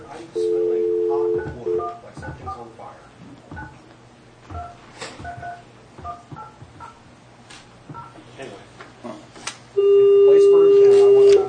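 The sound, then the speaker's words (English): A steady dial tone gives way to a quick run of short telephone keypad beeps, a dozen or more pressed in uneven succession as a call to California is dialed, followed by another sustained tone. The sounds are clear. “With that in mind, I'm going to make the phone call.”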